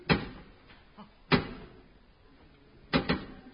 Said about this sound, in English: Three, two, one, and then two knocks. I wonder what it means. It means I want to come in, you twit.